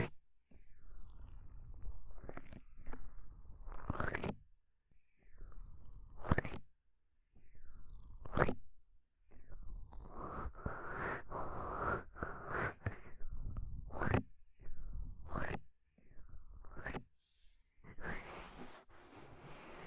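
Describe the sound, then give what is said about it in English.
Soft, muffled sounds of hands cupping and rubbing over the ears for ASMR, heard against a microphone: a series of low whooshing swells and dull thumps in uneven rhythm, broken by brief silent gaps, with no talking. “So just relax and enjoy the sounds of me cupping your ears.”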